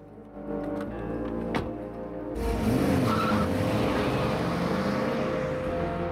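A car engine idles, then revs hard and pulls away with a brief tire squeal, the loud motor roar continuing as the vehicle accelerates off.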